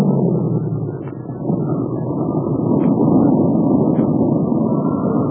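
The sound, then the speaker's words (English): A propeller airplane engine drones steadily in flight as the plane is chased by an enemy plane, a loud, rough, continuous rumble with a windy roar over it and a few faint higher clicks, with no voices. “If this motor would clear up, I could have fun, but not this way.”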